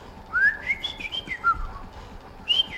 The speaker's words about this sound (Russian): Я мальчишка и то лучше свистел.